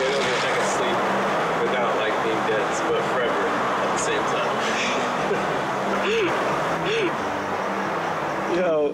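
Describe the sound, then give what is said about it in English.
A few short, sharp dog barks pop up near the end, spaced about a second apart, over a constant rumble of road or engine noise with some voices mixed in. “Dog, stop! Stop! Stop! Stop!”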